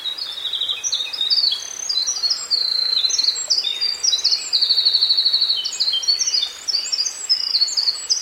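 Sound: winter wren song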